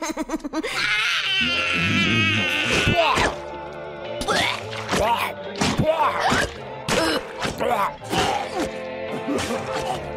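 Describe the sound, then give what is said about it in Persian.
A child cries loudly, wavering wails broken into sobbing bursts with short gasps between them, continuing for several seconds over a dense background. “اون صدای بچه‌نسا بود؟”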